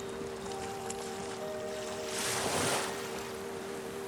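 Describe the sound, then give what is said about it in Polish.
Gentle water splashing and lapping, played as soothing sounds with gentle music from hidden loudspeakers, with one soft surge of spray swelling and fading near the middle, over a steady low humming tone. “a z niewidocznych głośników popłynęła delikatna muzyka, której towarzyszyły kojące dźwięki, plusk wody, szum drzew, świergot dzikich ptaków.”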